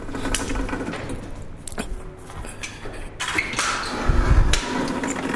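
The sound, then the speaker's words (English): Automatic double doors run with a steady mechanical whir and scattered clicks, then a deeper rumbling thud swells briefly near the end as they finish moving. “We are actually by these double doors, automatic doors.”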